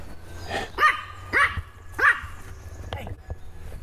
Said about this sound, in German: Hund vorbei.